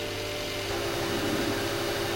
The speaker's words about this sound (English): Okay, the synth just comes hogs the whole thing straight away, doesn't it? A little white noise.